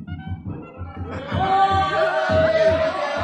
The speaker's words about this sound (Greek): Φαίνεται πως έρχονται για να φωνάζει έτσι ο κόσμος και να χτυπούν οι κουδουνάτοι. Εκείνοι θα είναι.